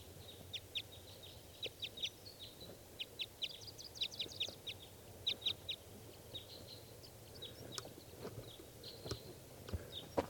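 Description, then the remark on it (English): A single lone wild male bird calls repeatedly, a series of sharp, high chirps in quick clusters with short pauses between, over a low steady background rumble and occasional soft thuds. “Okay, this is that bird.”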